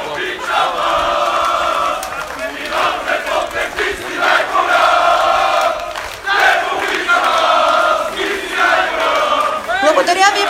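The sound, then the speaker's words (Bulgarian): A large stadium crowd at the emblematic home of Botev Plovdiv, Bulgaria's oldest football club, roars and cheers continuously, with swelling waves of chanting and shouting that rise and fall in loud bursts, scattered whistles and clapping mixed into the dense wall of voices. “Ще има много време за аплодисменти, а сега нека да кажем най-важните неща и да приветстваме гостите при нас.”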